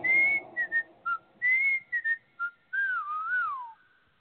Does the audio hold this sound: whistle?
yes